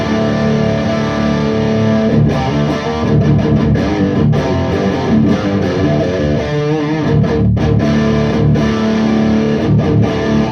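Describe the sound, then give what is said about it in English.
A heavily distorted electric guitar plays loud, sustained chords and riffs through a Mendelssohn pedal into a Fortin 50-watt preamp and a Fortin 4x12 cabinet, dense and continuous with brief choppy gaps, heard in the room with no talking. “It's a TS9, and that goes into the Mendelssohn, and that Mendelssohn goes into this Fortin 50 watt preamp into a Fortin 4x12 cabinet, and this is how it sounds in the room.”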